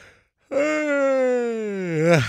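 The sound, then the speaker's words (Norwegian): A single long, drawn-out yawn, fairly loud, with a steady voiced tone that slowly falls, then rises and breaks off at the end. “Kjeder meg ikke. Bare hjernen min som trenger oksygen, har jeg lært etter innspill fra dere lytter.”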